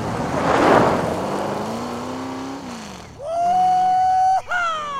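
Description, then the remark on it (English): A pickup truck speeds away with a loud engine roar that climbs in pitch, drops briefly as it shifts gears, then revs hard again. No one speaks. “Soon, Craig joined her, and they took off like a scalded dog.”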